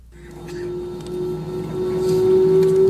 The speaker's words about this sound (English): They're on takeoff roll. Engines are spooling up. It's an Airbus 320. Ah, listen to that great sound. Rolling down the runway. Gathering speed. Everything's going well.